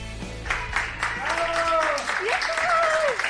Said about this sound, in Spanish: Estos aplausos no son los de las 8 de la tarde, son los aplausos que hace unas horas con los que han celebrado los médicos y los enfermeros del Hospital Madrileño de Ramón y Cajal la extubación